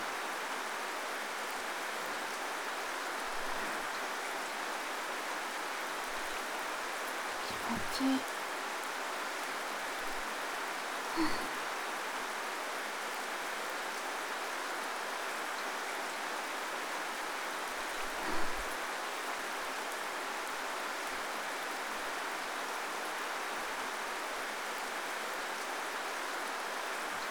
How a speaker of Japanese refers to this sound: 私ね、好きなんだ、雨の音も。ここいい場所だよね。すごく静かで、雨の音だけ聞こえる。傘に当たる雨粒の音。